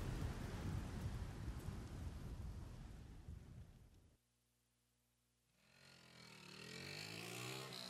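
Steady, hissing rain falls on pine woods, with a low rolling rumble of distant thunder underneath, lasting a few seconds before cutting to silence; a different, wavering tonal sound then rises afterward.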